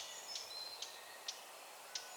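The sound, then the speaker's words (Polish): Four sharp, dry ticking alarm calls from a blackcap, spaced unevenly about half a second apart, standing out clearly over a faint, steady outdoor hiss. “Postukiwania, tyk, tyk, tyk, niczym takie małe kotły w filharmonii. To kapturka się niepokoi.”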